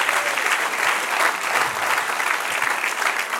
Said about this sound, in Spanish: Dale un aplauso, Señor. Amén. Amén.